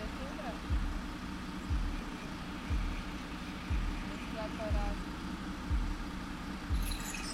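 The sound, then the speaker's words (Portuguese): A bus's deep engine rumbles steadily on a street, with a regular low thumping pulse about once a second, staying at an even loudness throughout rather than swelling and fading away. “Sabes que eu gostava muito de experimentar conduzir um autocarro?”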